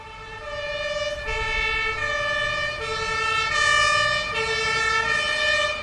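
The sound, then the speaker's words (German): An ambulance siren wails in a steady two-tone pattern, alternating between a high and a low pitch about every second, as the ambulance drives off and turns a corner, loud with faint traffic rumble underneath. “Der Krankenwagen fuhr los, schaltete die Sirene ein und fuhr um die Ecke.”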